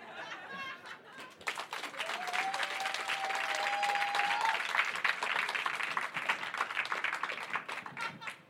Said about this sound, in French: Hop ! On applaudit bien fort cette femme qu'on a choisie complètement au hasard, que personne ne connaît.